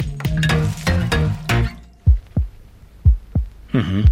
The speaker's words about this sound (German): Das also ist er, der ganz normale Herzschlag.